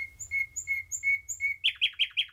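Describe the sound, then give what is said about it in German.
A nightingale sings, loud and clear: a run of evenly spaced whistled notes that switches abruptly into a faster, sharper series of rhythmic chirps, with no voices. “Die Nachtigall, ein Original. Sie singt gern, nachts für die Liebe und tags fürs Revier.”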